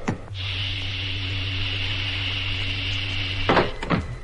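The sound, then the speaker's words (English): A steady electrical hum with a faint high whine runs for about three seconds while an airlock is filled, then cuts off with a heavy clunk and a second knock as the cabin hatch swings open. “Now opening cabin hatch.”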